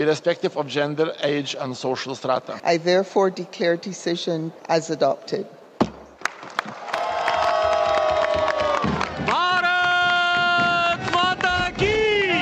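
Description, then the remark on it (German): The delegation of India's Minister of Tourism and Culture breaks into loud, excited cheering and shouting, waving little flags, sustained and rising in intensity after a brief sharp gavel blow sealing UNESCO's Intangible Cultural Heritage title for Deepavali, following a stretch of lively overlapping voices. “Die Delegation des indischen Ministers für Tourismus und Kultur bricht in Jubel aus und schwenkt Fähnchen.”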